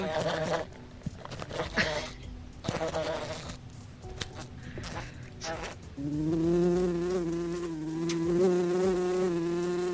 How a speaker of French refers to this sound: Et alors maintenant, on mélange tout ça et ça donne un concert d'insectes à l'école à la radio. Voilà.